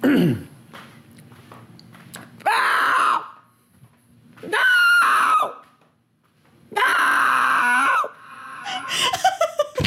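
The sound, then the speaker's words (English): A person in a garage in Temple, Texas, imitates a fox's scream with three loud, raspy, drawn-out shrieks of about a second each, separated by pauses and trailed by breathy rasping sounds, with no other sounds. “And this is my imitation of a fox screaming.”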